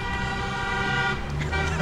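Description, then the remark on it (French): Car horns blare steadily in a busy street in eastern Montreal by Langelier metro station just after a match has ended, several overlapping in sustained, loud honks, with a rumble of traffic and crowd noise underneath. “On entend les klaxons en direct du métro Langelier en ce moment, à 2 pas du Centre Bell.”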